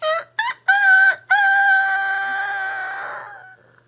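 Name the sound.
rooster crowing at dawn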